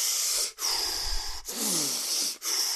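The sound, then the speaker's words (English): Loud heavy breathing from a man in three long, harsh breaths separated by brief pauses, raspy and noisy like air rushing through a microphone, with no talking. “I mean, that's all this really was just heavy breathing.”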